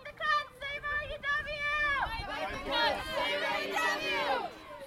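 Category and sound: crowd, protest crowd shouting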